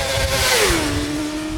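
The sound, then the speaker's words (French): A loud motorcycle engine roars steadily, its whining tone sliding down in pitch as the revs drop and then holding at a lower drone, with no voices. “Les motos, j'aime bien les motos.”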